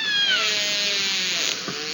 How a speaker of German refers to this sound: Und kilometerweit hörbar sind Wale, hier ein Orca.